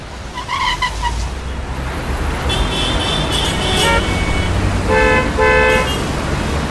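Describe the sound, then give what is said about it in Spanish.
Several car horns honk over a steady rumble of idling traffic jammed at a broken traffic light with about four cars stuck in the middle, short overlapping toots early on, then a cluster of longer blasts in the middle and two more near the end, fairly loud. “Parece que está roto el semáforo, ¿eh? Ah, bueno, genial. Como 4 autos trabados ahí en el medio.”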